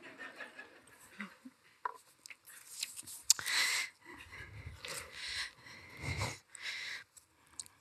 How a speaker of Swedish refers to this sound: Ja, ni kan hosta när jag dricker lite vatten.